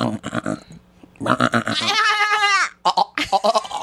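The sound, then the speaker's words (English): A person imitates a goat bleat with the tongue stuck out: a wavering, nasal bleat lasting about a second, loud, with brief speech before and after it. “Susie taught me how to do the goat.”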